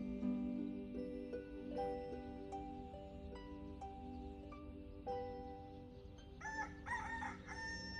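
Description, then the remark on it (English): A rooster crows, with drawn-out tonal calls over a steady background, ending in a louder, wavering cock-a-doodle-doo near the end. No one speaks. “We didn't have a rooster in the neighborhood.”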